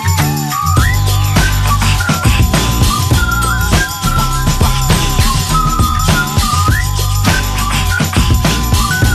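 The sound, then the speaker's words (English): A whistled melody with short sliding notes rides over a loud, busy music track with steady bass and percussion, repeating its phrase throughout. “as I walk down the street, whistling this”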